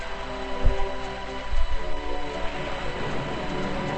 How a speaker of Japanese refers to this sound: 雨が降ってますよ。